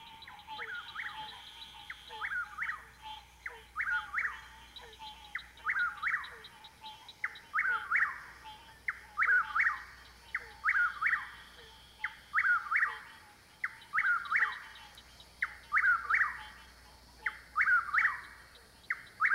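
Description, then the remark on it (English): A whippoorwill calls over and over in a steady, rhythmic series of clear, whistled three-part phrases, each repeated about every second and a half, with faint night insects in the background. “That's the whippoorwill.”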